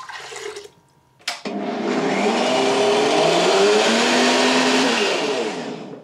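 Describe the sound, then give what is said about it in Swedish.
A short clatter and a brief pause, then a blender whirs loudly and steadily for several seconds, its motor droning with a rough, churning hum as it blends a large bunch of mint with lime juice and a little water into a green juice. “trycker ner all mynta i mixen och häller på limejuicen.”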